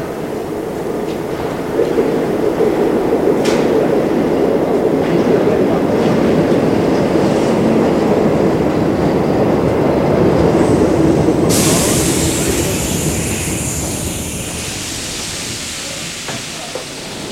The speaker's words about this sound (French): Un métro arrive, les gens entrent dedans et s'apprêtent à repartir.